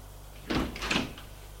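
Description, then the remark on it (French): A few quick knocks on a door, dull and moderately loud, clustered within about half a second and then fading into quiet. No one speaks. “On a frappé à la porte.”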